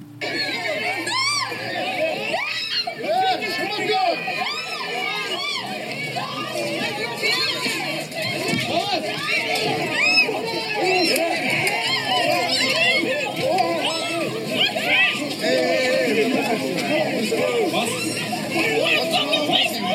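A dense, agitated crowd at a vigil that erupted in chaos fills the whole recording with overlapping shouts, screams, chatter and raised voices, some high-pitched like children, churning at a steady loud level with no pauses, as people chase a man and push and shove.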